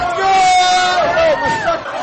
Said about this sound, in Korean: 비명 소리와 함께 학생들이 탄 롤러코스터가 출발했습니다.